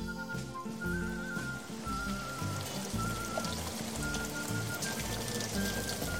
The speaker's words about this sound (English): Oh, it's raining now.